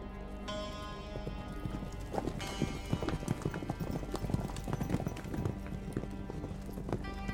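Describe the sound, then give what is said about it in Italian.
Horse hooves clip-clop in a steady, brisk rhythm, fairly loud, as three people travel on horseback, over a sustained musical backdrop with no talking. “si spostano a cavallo, un mezzo di trasporto veloce ed economico.”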